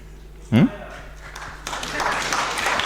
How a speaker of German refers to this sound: So. Hat ein bisschen gedauert, bis der Applaus kam, ne? Ja, aber ich habe auch genug gebettelt.